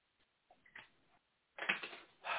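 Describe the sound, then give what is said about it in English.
Pen scratching across paper while drawing, in a few strokes: soft, brief marks first, then a louder, sustained scribble and a final quick stroke, with no talking. “I don't have my whiteboard, so I gotta draw this shit out on paper.”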